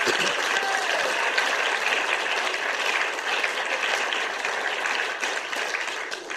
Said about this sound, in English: It's just been great to have these people here, hasn't it? And why don't we give them a clap, okay?